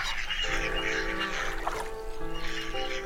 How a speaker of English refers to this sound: Swans, geese and other birds surround these strangers at the water's edge in a meeting of curiosity.